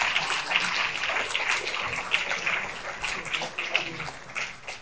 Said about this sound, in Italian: riuscire a fare un applauso più forte